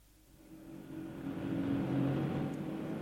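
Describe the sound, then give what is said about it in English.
A taxi's engine hums and rises steadily, revving up with a growing low drone that swells louder over a few seconds, no voices present. “This is a taxi, not a liberty boat.”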